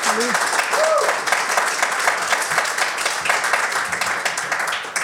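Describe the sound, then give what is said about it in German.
Sustained applause from an audience at the 20th IWW-Kongress Praxisärzteberatung in Düsseldorf, dense steady clapping at an even loudness throughout, with a couple of brief whoops or voices rising over it at the start. “Danke für den tollen Applaus.”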